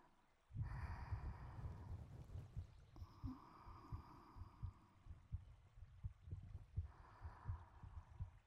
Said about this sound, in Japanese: 私のドキドキ聞こえますか？ちょっとうるさいですけど